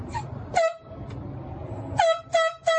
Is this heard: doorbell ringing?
no